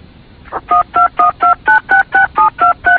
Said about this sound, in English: What was that? Excuse me? I heard some beeps on the phone.